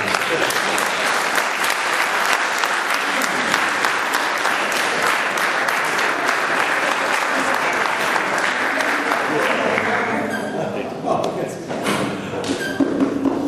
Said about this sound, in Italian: Un applauso.